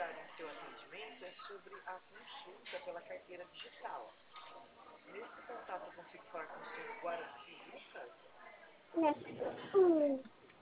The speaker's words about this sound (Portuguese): Você tá com seu neném? Isso. Tô ouvindo, que bonitinho. É ela, né, que eu vi aqui na foto. Isso, ela.